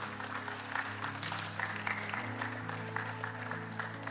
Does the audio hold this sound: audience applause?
yes